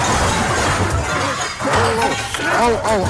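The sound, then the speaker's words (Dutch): A car smashes through a shop's glass front: a loud, sustained crash of shattering glass and debris, with raised voices breaking out over the noise. “Er rijdt net een auto bij ons tegen... Tegen de wat? Die meneer die rijdt de pui eruit.”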